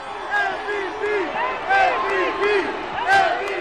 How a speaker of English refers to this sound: The players rode two to a cable car bus, and every new player brought an eruption of cheers and chants from the crowd.